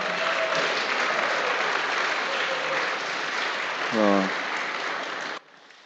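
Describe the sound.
A church audience applauds to welcome a baby boy as a new member of the audience, in a dense, steady burst of clapping for about five seconds; a brief voice rises through it near the end before the applause stops abruptly.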